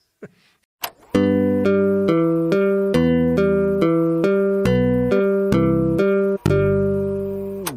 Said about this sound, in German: Haben gesagt, was für ein, müsst ihr jetzt piepen, was für ein Scheiß.